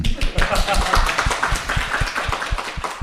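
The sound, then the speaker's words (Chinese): An audience at a stand-up comedy recording claps steadily in thanks to those who contributed to stand-up comedy, a dense patter of many hands sustained for a few seconds, with some stronger individual claps standing out in the mix. “对，而且我觉得掌声就是这几位也是代表嘛，就不光是有演员，然后还有俱乐部的老板，对不对？”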